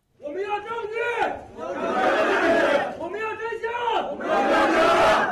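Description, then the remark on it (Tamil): About 30 relatives of Chinese passengers on the missing Malaysia Airlines plane protest with banners outside the airline's office in Kuala Lumpur, Malaysia, chanting loudly in unison, voices rising and falling in a repeated two-part rhythmic call, each phrase swelling into a shouted burst before a brief dip. “விமானத்திற்கு என்ன ஆனது என்கிற உண்மை தெரிய வேண்டும் என்றும் அதற்கான ஆதாரங்கள் காண்பிக்கப்பட வேண்டும் என்றும் கூறும் வாசகங்கள் அடங்கிய பதாகைகளோடு அந்த அலுவலகம் முன்பு அவர்கள் ஆர்ப்பாட்டம் செய்திருக்கிறார்கள்.”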